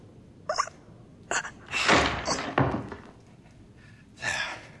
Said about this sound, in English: Won't be the last door we have to force tonight.